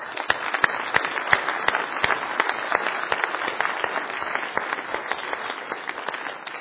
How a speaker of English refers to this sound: I also want to honor those who have responded to the call to be a first responder and who are faithful in their duties. Let's have a respectful round of applause for our first responders.